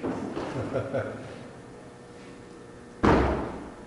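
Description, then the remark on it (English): A single loud door slam near the end, sharp, with a short echoing tail after some muffled background voices earlier. “Doors. Doors. Can we take this one for an example?”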